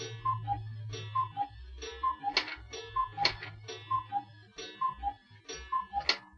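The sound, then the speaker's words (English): A clock ticks in a steady, alternating tick-tock rhythm, each beat a small pitched click, with a low background hum and no voices. “Sounds like the clock's wrong.”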